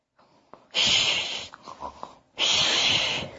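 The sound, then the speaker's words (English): A voice imitates loud snoring: two long, raspy, hissing snores with a few short snorts and breaths in between, no words spoken. “What sound does a person sound like when they are sleeping?”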